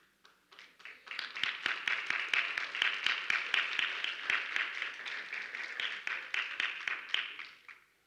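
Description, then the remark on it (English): An audience of parents breaks into applause while the children do not clap, many hands in a dense, steady patter that swells quickly, holds for several seconds, then tapers off. “I just noticed that all the parents clapped and all the kids didn't.”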